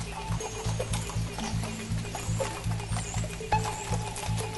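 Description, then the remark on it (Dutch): Horses' hooves clop in a steady, repeating rhythm on a hard surface at a demonstration, set against a busy outdoor background with faint crowd murmur. “Okay, het geluid van de paarden.”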